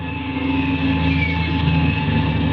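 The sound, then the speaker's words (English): An airplane's propeller engine, just being started, drones steadily, a loud, even hum with layered harmonic tones that hold constant for a few seconds, with no voices over it. “I've got to start this engine first.”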